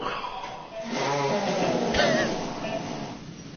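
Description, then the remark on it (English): A drawn-out, buzzing fart that wavers in pitch as it sputters along for a few seconds, fairly loud and heard on its own without any talking. “It is indeed a fart.”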